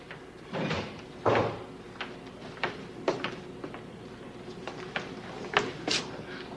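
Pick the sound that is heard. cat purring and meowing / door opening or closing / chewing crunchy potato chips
door opening or closing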